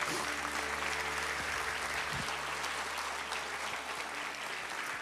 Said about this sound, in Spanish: Dile una ofrenda de palmas al Señor.